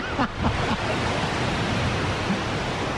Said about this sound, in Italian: Il mare. Scusate, avevo sbagliato effetto.